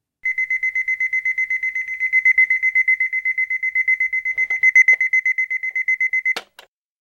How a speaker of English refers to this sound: Then she heard her sisters shouting, and her clock went beep, beep, beep.